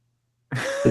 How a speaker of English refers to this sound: He mutes and coughs again. I can't kick whatever cough I have.